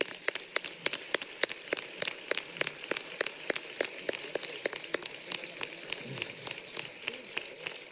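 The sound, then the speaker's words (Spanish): An audience at the closing night of the caracolá applauds the commission and the Delegación de Cultura steadily for several seconds, a dense, bright crackle of many hands clapping with sharper individual claps popping out, no voices over it. “Un aplauso para ellos.”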